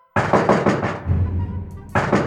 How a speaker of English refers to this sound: But then, Ruth Nelson heard a knock at the door.